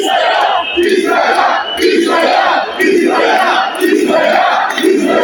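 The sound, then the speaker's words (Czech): A large protest crowd of about 15,000 people rallying against COVID certificates on Zagreb's main square, many brought by bus from across Croatia, chants in unison, loud rhythmic shouting repeating roughly once per second with brief dips between bursts, a dense wash of many voices. “Na glavnom zagrebačkom trgu okupilo se jučer oko 15.000 prosvjednika protiv COVID potvrda.”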